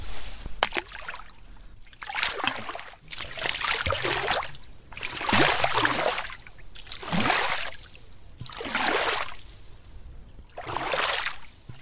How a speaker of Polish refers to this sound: Ja tylko chciałbym teraz naszym słuchaczom udowodnić, że jesteśmy naprawdę nad jeziorem i może tutaj sprowokujemy pluski.